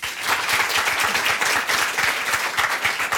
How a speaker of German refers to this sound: Können mal alle klatschen, die das noch nie gehört haben?